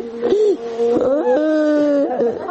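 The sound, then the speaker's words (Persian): A mother wails and sobs in mourning for her 19-year-old son, killed in a suicide attack on the Kawsar Danesh educational center in Dasht-e Barchi, Kabul. Her voice rises and falls in long, drawn-out, fairly loud cries with a broken, choking quality. “صدای گریه مادری که در سوگ هادی موسوی فرزندش نشسته و گلویش را بغض گرفته است.”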